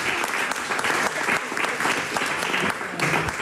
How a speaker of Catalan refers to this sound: Un aplaudiment